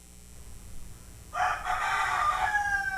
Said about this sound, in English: He remembers that rooster and says, ah, that's right. I remember the last time I heard that rooster.